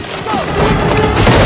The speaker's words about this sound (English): As the tree begins to fall, Elektra runs along its length, whilst Kinku smashes at the trunk where Abby and Mark are hiding.